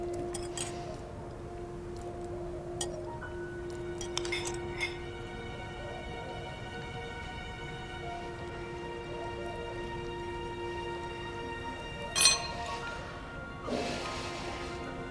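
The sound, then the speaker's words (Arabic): A glass clinks sharply once, followed by a brief soft rush as ayran is poured into a glass, with a few faint knocks earlier, all over a steady low hum. “صب لأبو كاسة عيران.”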